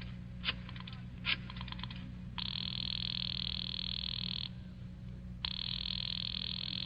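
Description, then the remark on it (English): A couple of clicks, then a telephone ringing on the line as someone phones a man: two long, steady buzzing rings separated by a short pause, heard through the receiver over a low, constant hum. “I decided to phone him.”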